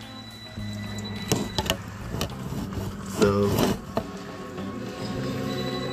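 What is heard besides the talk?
food frying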